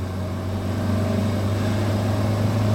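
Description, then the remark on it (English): A car engine drones steadily while accelerating after a shift into third gear, a low humming rumble holding an even pitch and loudness throughout, with no voices. “Because by maintaining my speed and just sort of accelerating like a...”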